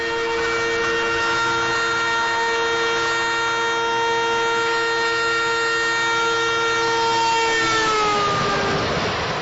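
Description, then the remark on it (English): A train sounds a long, steady, loud horn as it rushes past, the tone dropping in pitch near the end as it moves away, with a rumbling rail noise underneath and no voices. “As much as the North Indian city roads of New Delhi frustrated me after living in Charlottesville, one thing I really missed while living in the United States was traveling on a train.”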